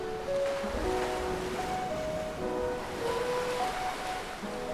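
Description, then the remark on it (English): A steady, full roar of ocean surf washes continuously over the shore, with soft sustained musical tones drifting beneath it and no voices present. “She's the incredible ocean.”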